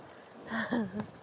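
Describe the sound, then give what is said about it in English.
A short, low, wavering moo, likely a person's voice imitating a cow, lasting about half a second and fairly quiet, with no other talking around it. “That cow sounds scary.”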